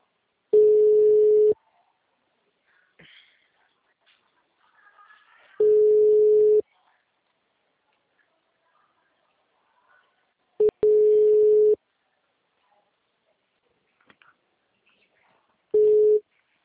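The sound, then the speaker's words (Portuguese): A telephone busy tone after a dropped call: four steady, mid-pitched one-second beeps separated by long pauses of near silence, with only faint stray noises between them. “a ligação caiu.”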